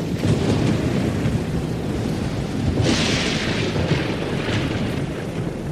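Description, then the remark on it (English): A loud, steady storm roars throughout, with heavy rain hissing over deep rumbling thunder that swells into a brighter crack near the middle. No voices are heard. “The first night, they end up in a storm.”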